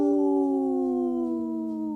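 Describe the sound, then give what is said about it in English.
A person imitates a wolf howl: one sustained, tonal cry held steady and loud for about two seconds, its pitch sliding slowly downward, with no other voices. “The howl called my dog over here, so she's ready to join nice.”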